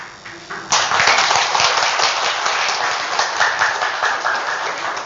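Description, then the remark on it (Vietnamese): An audience bursts into steady, dense applause after a brief quieter start, many hands clapping at once in a loud, sustained wash that holds for several seconds. “Quý vị vỗ tay lát nữa lỡ tôi có bị đâm giữa đường, đừng có than nha.”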